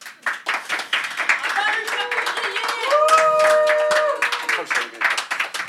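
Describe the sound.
An audience claps steadily for several seconds in a dense, rapid patter of many hands. A sustained cheer or whistle-like call rises over the applause midway, and crowd voices mix in. The audience is clapping to vote for banning Botox injections in future camel beauty contests.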